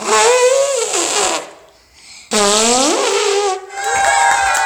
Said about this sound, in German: Der riesige Elefant kommt in das Zirkuszelt. Er geht zuerst über ein kleines Hindernis. Dann stellt er sich auf ein Podest und trötet ganz laut.